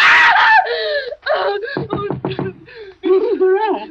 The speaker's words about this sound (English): What on earth is wrong? Why were you screaming?